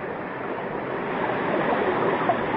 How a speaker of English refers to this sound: Look, through the viewing port. Water. We're in an underground ocean. Another sea beneath the Earth.